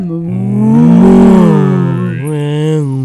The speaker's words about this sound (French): Le taureau mugit.